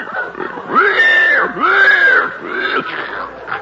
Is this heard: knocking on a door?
no